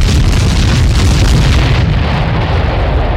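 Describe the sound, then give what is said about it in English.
A loud explosion booms and rolls into a heavy, sustained rumble with crackling debris, its sharp upper hiss fading away after a couple of seconds while the deep roar continues. “What on earth caused that explosion?”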